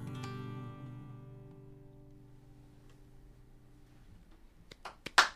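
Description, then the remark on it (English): A lingering musical chord fades slowly, then a few sparse, sharp hand claps break out near the end, growing louder over the final second with no voices. “And the crowd goes wild.”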